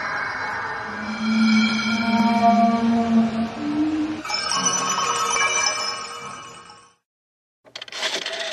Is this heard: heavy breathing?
no